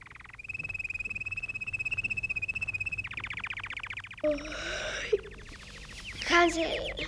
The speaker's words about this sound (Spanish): ¡Ya amaneció! ¿Eh? ¡Cuánto pájaro!